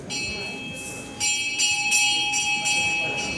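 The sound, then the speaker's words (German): A bell rings steadily in a spacious hall with a bright, sustained metallic tone, struck repeatedly in an even rhythm that grows louder after the first second, ringing clearly through a faint background. “Als die Glocke läutet, öffnen sich am Ende des weitläufigen Saales drei kleine spitze Fenster, eine Art Ausschank.”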